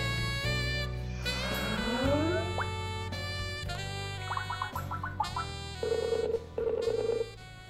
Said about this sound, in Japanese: 本日はですね、杉沢あゆみさんからのご紹介で電話をつないでいきたいと思います。